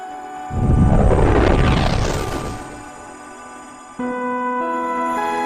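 A loud, rumbling explosion from the video game Morphite, developed by Blowfish Studios in North Sydney, bursts in with a rising, sweeping whoosh and fades over a couple of seconds, followed by a steady synthesized tone that starts abruptly.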